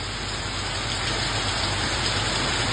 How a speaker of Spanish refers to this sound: Escuchemos un poco el sonido de la lluvia en San Pedro de la Paz.